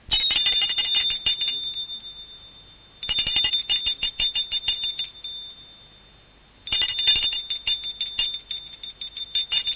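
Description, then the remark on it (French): A front doorbell rings in three long, rattling bursts separated by short pauses, a bright, insistent electric jangle, with no voices. “Et la porte d'entrée aussi.”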